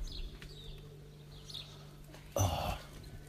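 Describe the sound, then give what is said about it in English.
Faint, high twittering calls of a goldfinch come in a few short bursts over steady background hum, then a brief louder rough burst of noise cuts in near the end. “There's a bird. I think it may be a goldfinch.”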